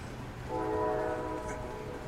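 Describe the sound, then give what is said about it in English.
A train arrives at a platform with a low rumble, and a sustained, multi-toned horn sounds for more than a second before fading slightly. No one speaks. “And I think I hear the train coming now.”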